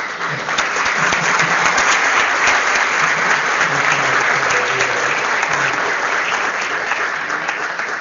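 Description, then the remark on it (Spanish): Steady audience applause fills the full eight seconds, a dense, even wash of many hands clapping at constant loudness with no voices breaking through. “Así que queremos que el próximo aplauso sea un sándwich, por lo menos dejamos un queso.”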